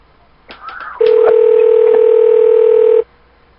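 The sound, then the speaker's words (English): Touch-tone phone dialing: a few quick clicks and beeps, then a loud, steady electronic tone holding for about two seconds before cutting off abruptly. No one speaks. “Please enter the phone number you would like to dial, followed.”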